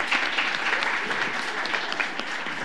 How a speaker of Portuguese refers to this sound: Uma salva de palmas, gente, para ela.